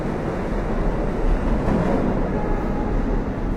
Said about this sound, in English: When you're on a mission, your adrenaline is flowing and you can hear trains coming. You can sense it in the tracks, you know.